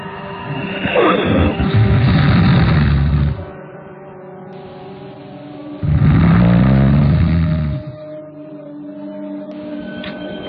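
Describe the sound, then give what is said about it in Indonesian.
Two loud, rough snores from a person in a pocong costume napping at midday, each a long rattling rumble lasting two to three seconds, separated by a quieter breathing pause. The sound is deep and gravelly, with no talking. “Ia malah mengeluarkan suara dengkuran yang cukup keras.”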